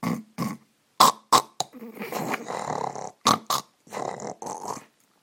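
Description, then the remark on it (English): Loud snoring of a person, recorded on an iPhone: rough, rasping snorts with several short sharp bursts followed by longer guttural rumbles, irregular in rhythm, with no talking. “My snoring was surprisingly loud. It goes like this.”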